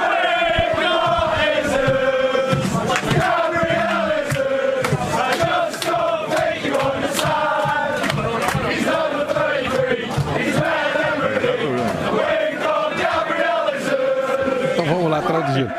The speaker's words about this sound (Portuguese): Ele mal chegou no Manchester City, ele já ganhou uma música da torcida.